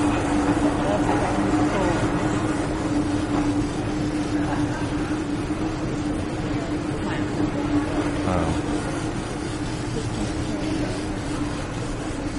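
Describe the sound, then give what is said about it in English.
A train rumbles steadily for the whole stretch, a dense, continuous roar with a low droning hum running underneath, holding an even, moderately loud level without pause. “Trains. Oh, train.”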